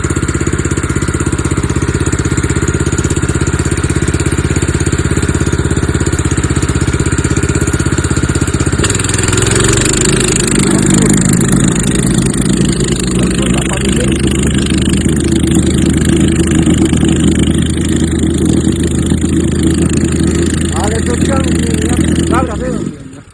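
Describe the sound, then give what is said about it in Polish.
A plate compactor's small engine idles steadily and loudly throughout, then drops into a rougher, heavier rumble partway through before cutting off abruptly at the end. “Zagnę szczarkę na dotarciu, ale nie wibruje mocno.”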